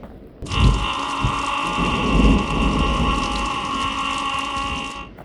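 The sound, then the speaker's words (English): Steady, dense rain pours down while deep rolls of thunder rumble underneath, the storm starting abruptly, swelling loud for about five seconds, then cutting off; no voices are heard. “that storm is passing right where Boromir is going”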